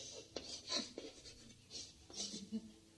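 A pen scratches across paper in short strokes, writing out the word 'martiaal' by hand in Dutch spelling, quiet and intermittent with small pauses between the marks.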